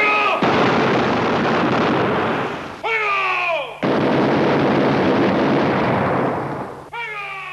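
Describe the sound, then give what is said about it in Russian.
Dense, roaring volleys of gunfire fill long stretches, breaking off twice for short gaps where a voice-like, downward-sliding tone sounds before the loud barrage resumes. The gunfire is from the final scene of the film Butch Cassidy and the Sundance Kid, as the two heroes run out into it. “отвечает Буч, и с этими словами они вылетают у закрытия навстречу оружейным залпам и застывают в незабываемом кадре, по которому хоть сейчас можно лепить монумент.”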